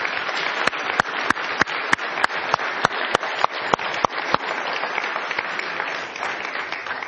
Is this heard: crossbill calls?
no